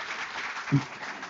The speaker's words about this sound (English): Can we give them an all round applause? That was brilliant. Well done.